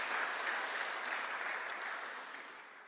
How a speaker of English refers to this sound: Give it a round of applause. That's not easy to do. Well done. Fantastic. Fantastic.